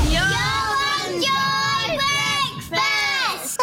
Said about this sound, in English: It is 24 minutes to 9, and that was my nephews and nieces shouting us out here in the morning